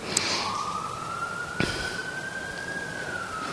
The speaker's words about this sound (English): And then there's all this inner and outer sirens.